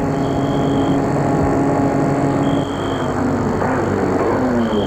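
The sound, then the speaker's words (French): A white BMW's engine rumbles loudly, steady throughout, with its pitch shifting slightly toward the end as the car slows to a stop. No voices. “Tout à coup, une voiture passe. Il fait signe de s'arrêter.”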